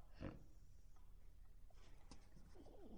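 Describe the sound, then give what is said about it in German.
A pig hidden in fallen leaves grunts in short, rough bursts, with a loud snort near the start and more low grunting toward the end over a steady background rustle. “Ja, da ist also das Schwein. Es hat sich im Laub versteckt.”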